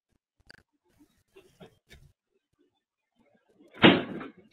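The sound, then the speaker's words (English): A fridge door slams shut with a loud thud near the end, preceded by a few faint, scattered knocks and clicks. “Those are three distinct slams.”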